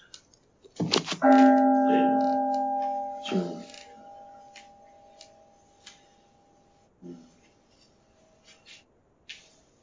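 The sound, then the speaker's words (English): A single meditation bell is struck once, its clear, steady tone ringing out and slowly fading over several seconds, with a few soft clicks and rustles underneath. “Whoa, I think that's a nice place to ring the bell”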